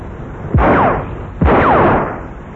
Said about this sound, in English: Bang! Bang! Ah. Well, Somerville's still out shooting, and he's been joined by Mr. Watts, as you can hear.